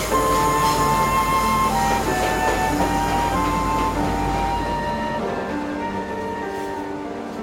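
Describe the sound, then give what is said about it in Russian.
A train departs with a steady, loud mechanical rumble and a droning hum; the deep rumble thins out toward the end as it moves away. No voices. “Поезд уехал и надолго увез девушку из родных мест, от домашнего уюта, где царили мир и любовь, от любящей мамы, сестричек, любимой церкви,”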